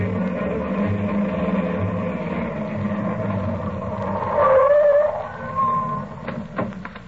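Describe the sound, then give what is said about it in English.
A car engine rumbles steadily as the vehicle approaches a hospital, then a brief squeal of brakes as it slows and stops by the ambulance entrance, followed by the idling engine settling and a few light clicks. “I'll leave the car right here by the ambulance entrance”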